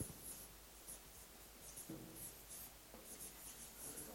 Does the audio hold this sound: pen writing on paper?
yes